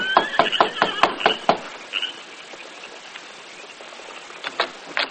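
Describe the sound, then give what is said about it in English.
A rapid run of sharp hoof clops on a hard surface as the Lone Ranger and Tonto ride their horses after dark to the sheriff's house near the edge of town, with a brief high whinny-like cry over them, then a quieter stretch and a few more clops near the end. “Leaving their horses in the shadows, they approached the front door.”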